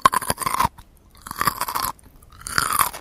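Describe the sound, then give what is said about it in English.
Loud, crisp crunching of a coworker in a shared workspace chewing frozen carrots, in three bursts of rapid bites separated by short pauses, with no talking. “He loved to eat carrots, frozen carrots.”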